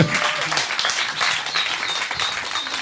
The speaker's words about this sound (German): Herzlichen Applaus bitte